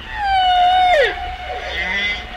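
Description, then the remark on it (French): A humpback whale sings a long, smooth tonal note that sweeps downward, ringing with strong harmonics, then trails into lower echoing moans with a reverberant wash behind it. Recorded near Guadeloupe, off La Désirade. “Et alors, près de la Guadeloupe, encore une autre version de chant.”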